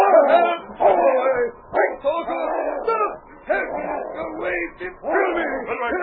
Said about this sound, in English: Then, suddenly, a great dog leaped at his back.